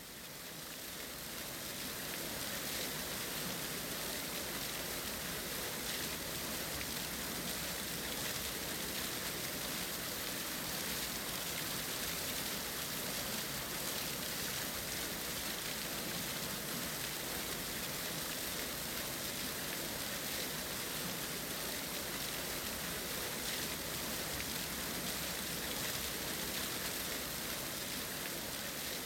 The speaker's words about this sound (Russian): В окнах зажглись огни, поднялся ветер, пошел дождь, наступила сырая холодная ночь.